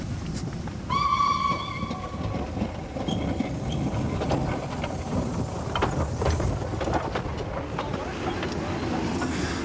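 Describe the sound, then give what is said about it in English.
A train rumbles steadily along the rails with a low, continuous roar and faint rhythmic clatter, and a short whistle sounds near the start. “When they got off the train at Charing Cross, they really felt their adventure had ended.”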